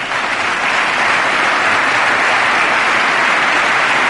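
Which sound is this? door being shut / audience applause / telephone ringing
audience applause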